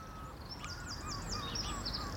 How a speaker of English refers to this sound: So I'm hearing sort of gulls in front of us and to the left.